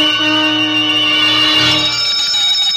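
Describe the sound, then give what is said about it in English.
A gate bell rings loudly, violently and insistently for several seconds without pause, an hour before a wedding ceremony, its bright metallic tone filling the space with no voices present. “There was an hour yet before the ceremony, and suddenly there was a violent ring at the gate bell.”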